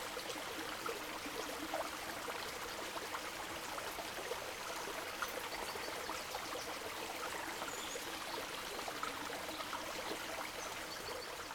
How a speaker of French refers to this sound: Alors ici, on n'est pas très loin, on est en Bretagne. Bruit de la mer. Ou du fleuve, je ne sais pas. Du fleuve, c'est ça? C'est une rivière.